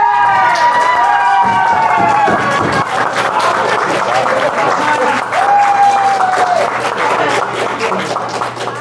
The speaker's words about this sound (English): All right. All in favor of Alex Gillen, signify by clapping.